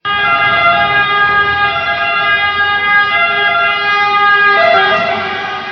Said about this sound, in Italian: Quali sono i rumori del pronto soccorso? Ecco, i rumori del pronto soccorso sono veramente vari, dalla sirena normale, voglio dire, dell'ambulanza che arriva,